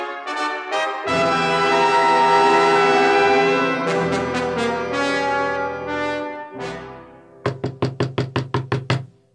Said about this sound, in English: Someone's at the door. I'll get it.